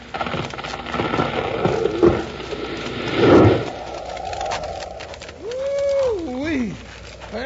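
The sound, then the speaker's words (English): A large tree being felled, holding enough wood to build five ordinary houses, comes down with a single heavy, rumbling crash amid rustling noise, followed a couple of seconds later by a high, wavering whinny-like cry. “There's enough wood in there to build 5 ordinary houses. Look out now. It's about to drop.”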